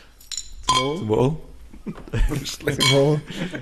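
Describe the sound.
A brief bright clink of glasses touching in a toast near the start, ringing faintly, followed by people talking and laughing with a few soft clattering sounds underneath.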